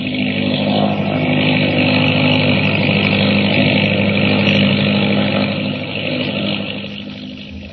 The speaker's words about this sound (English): They're getting away in an autogyro. Look, up there.